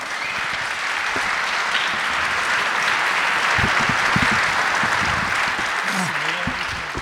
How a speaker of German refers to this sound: Bitte einen donnernden Applaus